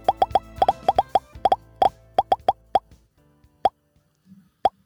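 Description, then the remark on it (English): Popcorn popping: a quick, irregular burst of sharp pops for about three seconds, thinning out to a few scattered pops as the kernels run out. No voices. “Without further ado, let's move into our review of Pig by popping it up one last time.”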